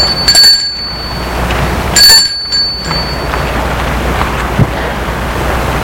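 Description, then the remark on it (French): A doorbell at the door of a house rings twice, two bright, high metallic chimes about a second and a half apart, each fading quickly, over a steady rushing background noise with no talking. “Moritz sonne à la porte.”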